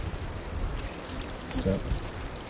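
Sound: stream flowing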